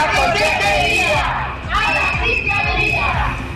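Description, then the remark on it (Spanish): A crowd of protesters in Oviedo, Asturias, people affected by improper charges (cobros indebidos) from the regional Consejería de Derechos Sociales y Bienestar, shouts a slogan in unison, loud and dense, in two rhythmic chanted phrases with a short dip between them. “Los que esta mañana gritaban lo que acaban de escuchar, la consejería, la fiscalía son algunos afectados por los cobros indebidos”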